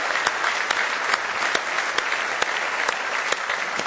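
An audience claps steadily in praise of the Lord for about four seconds, a dense, even wash of many hands with a few sharper individual claps standing out, and no voices on top.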